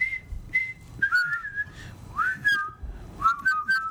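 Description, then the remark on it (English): Someone whistles the march theme from the film Bridge over River Kwai alone: two short clipped notes, then longer sliding phrases with bright, steady pitch and a brisk, bouncy rhythm, at moderate loudness with no talking. “Wasn't that an insurance company commercial theme? Or an oil company theme?”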